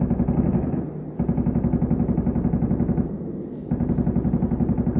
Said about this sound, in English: Take a little break. That's multiple different kinds of weapons there, by the way. Oh, yeah. I mean, they are going at it.